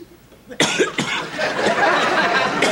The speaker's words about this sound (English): Yeah, but listen, I've got this cough.